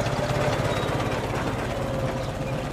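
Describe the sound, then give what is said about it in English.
A heavy diesel lorry engine idles steadily, a low rumbling throb with a rapid, regular knocking pulse that holds at an even loudness throughout, with no voices. “Monsieur Minet pays no attention to the lorry.”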